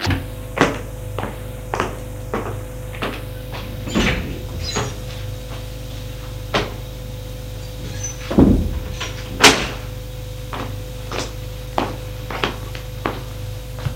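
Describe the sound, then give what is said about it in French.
A woman opens the right-hand of two doors in a corridor, leading into a bedroom: a run of sharp clicks and knocks over a steady low hum, with a few louder thumps and scrapes in the middle, with no voices. “Elle va ouvrir celle de droite.”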